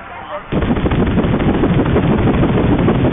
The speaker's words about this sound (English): One of the birds captured sound from a party boat in the Florida Straits.